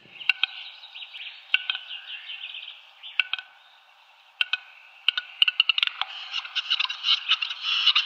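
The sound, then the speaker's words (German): A large, endangered grouse's courtship display: a scatter of sharp dry clicks that speed up into a rapid clattering run, over breathy hissing and faint twittering, with no voices. “Ein mächtiger Hühnervogel, wirklich sehr, sehr hübsch, leider vom Aussterben bedroht, mit einer spektakulären Balz, mit so lustigen, zischenden Geräuschen”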